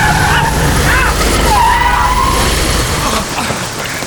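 A car's tires screech loudly as it brakes hard in the rain before a boy on a bicycle, a shrill squeal rising out of heavy road rumble and fading as the vehicle comes to a stop.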